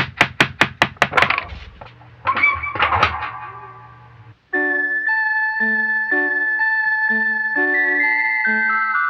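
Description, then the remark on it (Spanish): A quick run of about seven sharp knocks on a wooden door, then a couple of heavier thumps, followed by a bright, steady electronic chime melody. No one speaks. “¿Y si tocamos la puerta?”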